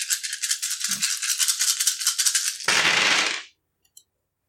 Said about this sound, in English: I'm rolling a shit ton of dice for brass knuckles. Okay, like, this is crazy. I better get some decent successes here.